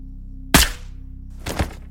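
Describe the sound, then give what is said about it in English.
A single loud, sharp sniper rifle shot, fired through a scope from the trees across the road at midnight at a building with large glass windows, cracks out and decays quickly, followed about a second later by a softer, rougher burst, all over a steady low hum. “Your last memory is the flash of my muzzle through a glass lens, up there in the trees across the road.”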